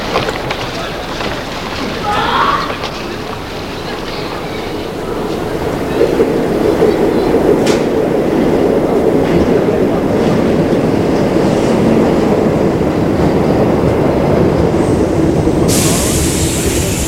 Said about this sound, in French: Il s'engouffre dans la station de métro.